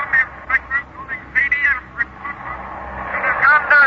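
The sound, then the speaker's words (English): Crackly radio static coming in from the Western Ocean, with thin, garbled ghost voices drifting in and out, muffled and tinny like a weak broadcast signal, growing slightly stronger toward the end as the signal clears up. “and now our technician tells us those ghost voices are back and that the signals are clearing up a bit, so let's listen.”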